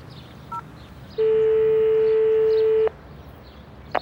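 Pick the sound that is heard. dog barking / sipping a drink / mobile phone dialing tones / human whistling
mobile phone dialing tones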